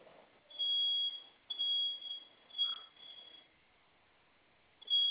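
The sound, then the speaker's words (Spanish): A home security panel's fire alarm, set off during a test by pressing its two flame buttons at the same time, sounds in loud, shrill electronic tones, several pulses of varying length, then stops briefly before starting again at the end. “Oprima los dos botones de la flamita al mismo tiempo, por favor. Déjelos oprimidos. Se va a activar la alarma.”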